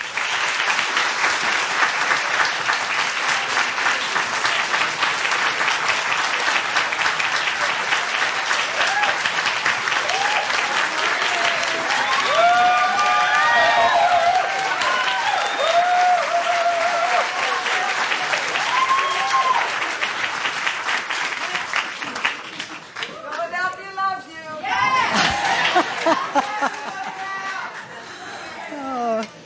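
A large audience at the Free Library of Philadelphia applauds steadily and loudly for nearly half a minute to welcome the Reverend Al Sharpton, with scattered cheers and whoops rising through the clapping before it begins to thin out near the end.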